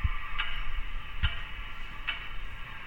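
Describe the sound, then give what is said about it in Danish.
A metronome, sent from the city's radio tower, ticks steadily, about one click every 0.8 seconds, each tick sharp with a low thump, over a constant hissing, broadcast-like hum carried through large loudspeakers set up on street corners across the city. No one speaks. “Sådan en, som musikere bruger til at holde tempoet med. Du hører lyden i dag”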